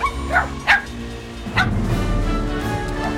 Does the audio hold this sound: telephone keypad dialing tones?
no